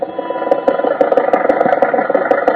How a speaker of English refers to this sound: At the moment, Rochester is driving Jack to the studio.